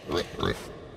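Two short, snuffling pig oinks in quick succession, moderately loud, followed by a quiet fade with no other sounds.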